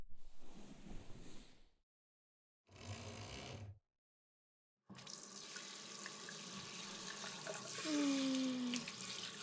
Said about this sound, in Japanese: お湯は熱くないかな。じゃあ、ささっと流しちゃいますよ。